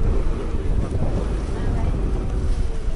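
Strong wind roars steadily across the microphone while a boat moves through water in Venice, a dense, continuous rumble with no pauses for the full few seconds.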